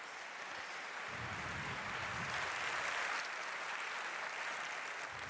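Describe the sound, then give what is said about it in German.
Sustained audience applause welcoming speaker Ange Albertini to his talk on unusual file formats, a dense crackle of many hands clapping steadily for several seconds at an even, fairly loud level with no voices over it. “Bitte eine Runde Applaus.”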